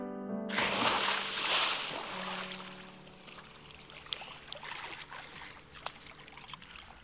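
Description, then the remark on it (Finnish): Water splashes and trickles in broken, irregular bursts as someone swims to shore through ice-cold, clear blue water, with a few sharp drips standing out as the sloshing gradually eases. No one speaks. “Pisarat räiskyvät kirkkaan sinisen veden pinnasta ja jääkylmä vesi kangistaa raajoja hänen uidessa rantaan.”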